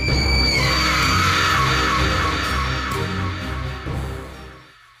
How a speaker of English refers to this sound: Give a sinister scream for your host